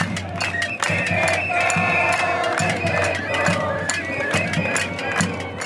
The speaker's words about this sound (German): Die meisten hier auf der Plaza Italia sind junge Leute, noch weit vom Rentenalter entfernt. Sie schlagen auf Töpfe, eine Protestform, die auf die Zeit der Pinochet-Diktatur zurückgeht. Und sie singen, Chile ist aufgewacht.